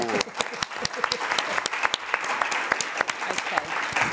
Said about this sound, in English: So the winners, they're not actually here, sadly, but we're going to give them a huge clap anyway,